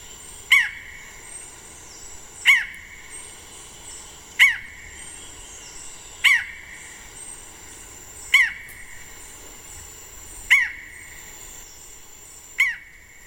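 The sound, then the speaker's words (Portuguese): A forest falcon (falcão caburé) in the forest gives a sharp, hoarse call about every two seconds, seven times, clear, alongside an electronic recording of its call played from a phone app, over a steady background of insect-like buzzing with no talking. “E por fim, o falcão da mata deixa o colega eletrônico falando sozinho.”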